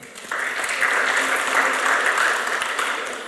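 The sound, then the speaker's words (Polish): Sustained applause from a crowd welcoming a board member of the Fundacja Wspomagania Wsi at an event: a dense steady patter of many hands clapping that swells quickly and holds at an even, fairly loud level with no voices over it. “Serdeczne brawa.”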